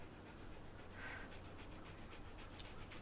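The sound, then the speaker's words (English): A female dog pants steadily, quick rhythmic breaths over a constant low background hum, with no one speaking. “It's Bob Platt's dog. I was hoping she would settle in.”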